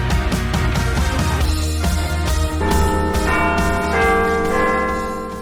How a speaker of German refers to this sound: Dann wünsche ich jetzt viel Spaß im zweiten Teil und es hat schon geklingelt, aber auf die Plätze, oder?